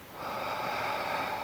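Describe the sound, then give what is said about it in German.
A long, steady breath pushed out through the mouth during a breathing exercise, a soft airy rush that swells quickly and holds evenly for over a second, with no talking. “Und atmen durch den Mund alles wieder aus.”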